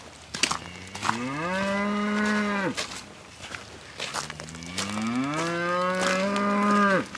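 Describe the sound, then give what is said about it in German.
A cow from a herd with calves, in freezing winter weather, moos twice while coming toward the people walking past, each call a long rising bellow, loud and clear, with faint shuffling footsteps in the background and no talking. “Außer die Kuh, die jetzt gleich auf uns zukommt.”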